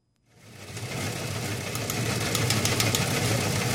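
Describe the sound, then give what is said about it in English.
A newsroom wire machine runs in the background of the Prairie Public radio program Main Street, with a steady mechanical whir and low hum, its rapid clicking clatter growing busier after a quiet start. No one speaks. “That machine in the background, for those of you who never were in a newsroom when wire machines clicked away all the time,”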